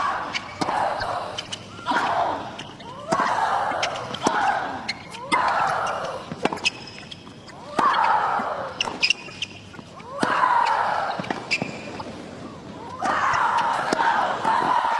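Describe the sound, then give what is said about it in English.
Sharp ball strikes trade back and forth in a steady rally, each met by a loud, drawn-out grunting shriek from the players, alternating roughly every second. “They just have a grunt off.”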